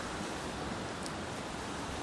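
A steady, even rush of a flowing brook heard from some distance as the listener walks away from it on a sunny, mild midwinter day, a soft continuous hiss with no breaks or distinct splashes, and no voices.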